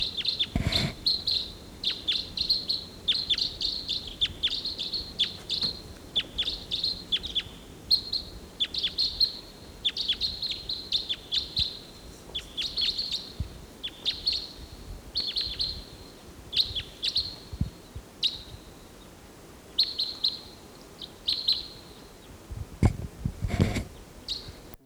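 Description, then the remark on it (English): A lone bird calls as it flies over, giving a long steady series of short, high-pitched chirps, with a couple of sharp knocks near the start and end and no talking. “A lone bird flying over.”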